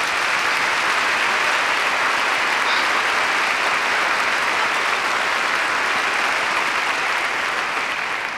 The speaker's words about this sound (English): Before we get on with our show, we'd like very, very much for you to meet my trio. So how about a nice, great, big, big round of applause for Johnny Veith on piano.